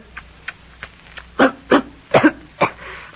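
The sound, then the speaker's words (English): A series of short, harsh coughs from smoking a cigar, starting with a few faint ones and building into louder bursts, some in quick pairs, with no talking. “How it makes you cough, I mean.”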